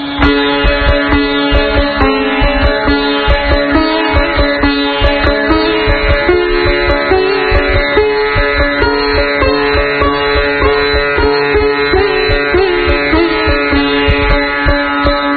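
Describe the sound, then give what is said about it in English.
A sitar plays a fast jhala passage, rapid rhythmic strokes alternating between a droning string and melody notes, dense and steady throughout with no voices. “In this style, there is a fast-paced alternation between the drone string and the melodic string.”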